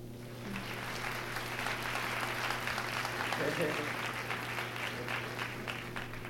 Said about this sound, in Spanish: a quien siempre le mandamos una ovación de pie.